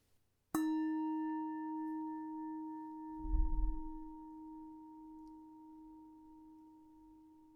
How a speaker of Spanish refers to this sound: Una vez más con los pies, cuando oigas la campana.